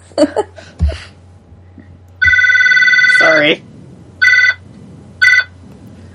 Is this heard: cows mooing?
no